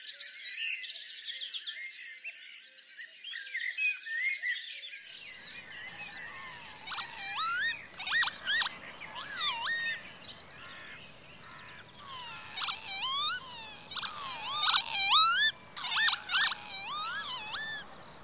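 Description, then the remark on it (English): Northern Lapwing calls: a busy chorus of wheezy, swooping cries, repeated and overlapping from several birds, clear, with no voices. “The Northern Lapwing was declared Ireland's national bird in 1990.”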